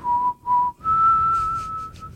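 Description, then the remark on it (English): Someone whistles a short, mournful tune: two brief notes at one pitch, then a longer held note slightly higher, clear and steady over a soft background hiss. “It's the sad music.”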